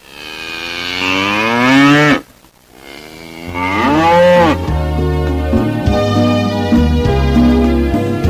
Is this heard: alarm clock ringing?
no